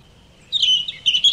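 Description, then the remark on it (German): A European robin sings a brief burst of high, thin warbling notes, clear, with quick twittering phrases after a moment of quiet and no voices. “Es ist ein Rotbrüsti, der tut so... So wie Lachen.”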